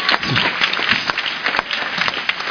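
A church audience breaks into sustained applause as a clap offering to the Lord, a dense crackle of many hands clapping at once, steady and fairly loud for a couple of seconds with a few voices mixed in underneath.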